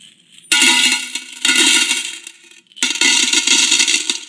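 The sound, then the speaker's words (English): Three loud bursts of coins clanging and jingling as they tumble down into a metal box as people give their money, each a bright, ringing clatter that fades before the next pour begins. No one speaks. “And they would put their money in so that it would clang and jingle and jangle all the way down.”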